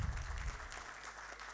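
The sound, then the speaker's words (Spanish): Steady applause from an audience at an award ceremony for the Orden Nacional al Mérito Comuneros, a dense crackle of many hands clapping at once, fairly loud and continuous with no voices over it. “Más fuertes los aplausos, por favor, para”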